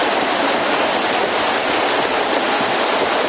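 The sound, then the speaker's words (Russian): Heavy rain pours down steadily while floodwater rushes loudly through the city streets of Sukhumi, a dense, unbroken hiss and roar that stays constant throughout, with no voices. “Неубранные вовремя бытовые отходы заставили коммунальщиков трудиться под дождем, вылавливая их из бурного потока.”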